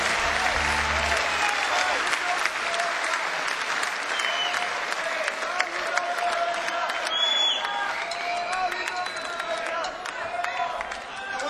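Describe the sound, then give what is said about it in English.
A live audience on St. Patrick's Day breaks into sustained applause, dense clapping going steadily for several seconds, with a few scattered voices and whoops mixed into the crowd noise. “And yeah, let's have a round of applause for them.”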